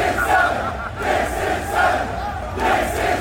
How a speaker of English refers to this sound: Now let's hear the sound of some celebration here in the city.